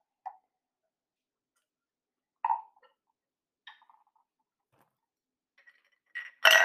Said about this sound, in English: So I guess we'll cheers and then drop them. Yeah. So clink, don't drop it too hard.